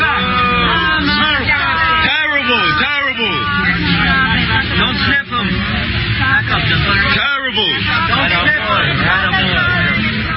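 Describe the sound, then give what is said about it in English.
A large crowd of New Yorkers boos Joe Biden loudly and without pause, with Obama present, many overlapping voices sustaining low jeering tones, with scattered shouts calling them murderers rising and falling throughout. “That was New Yorkers booing Joey Demento, Joe Biden.”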